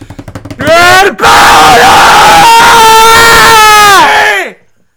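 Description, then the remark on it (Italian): A loud, drawn-out yell rises after a few short rhythmic vocal bursts, holding as a raw, strained scream for several seconds before cutting off, with other voices crowding in. “No, delle urla. Queste urla.”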